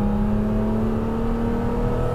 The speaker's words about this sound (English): I can listen to that engine all day long.